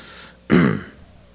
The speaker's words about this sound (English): I'm gonna apologize in advance because I, like most of you, have the sniffles, so you're gonna hear a bit of that over the speakers.